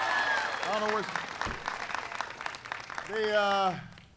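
Steady crowd applause at an event in Maryland fills the whole stretch, dense clapping with a couple of loud whoops and cheers rising over it, the last one near the end.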